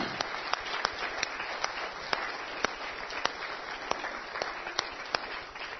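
An audience applauds steadily for several seconds, a dense wash of many hands clapping with a few sharper individual claps standing out, moderately loud and without any talking.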